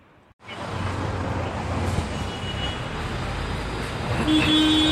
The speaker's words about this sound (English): She points, and we see down the street a bus coming. Gets closer and closer and closer, and then the bus turns into an animation.